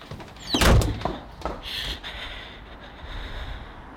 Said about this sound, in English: She gets up and walks out the door.